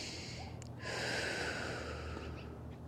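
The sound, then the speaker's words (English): A breathy inhale-exhale cycle, with one long airy breath drawn out for about two seconds after a brief sniff, taken while lifting one arm at a time in a rounded-spine exercise, one breath per movement, heard alone without any talking. “So that time I was doing one breath at a time as I went up and down.”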